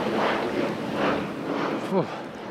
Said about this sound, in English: Yeah, but even now that I'm back up out of the gorge, it's nice and windy again.